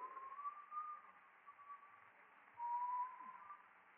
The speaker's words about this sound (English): A 12-year-old passed by on the street whistling tunelessly, childishly, on his way to the drugstore for a soda.